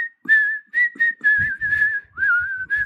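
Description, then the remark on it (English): Someone whistles a slow, haunting film-theme melody, drawn-out notes gliding gently up and down in a steady phrase, with faint breathy rumbles underneath and no talking. “What's the one from Kill Bill? That what's her name whistles as the nurse?”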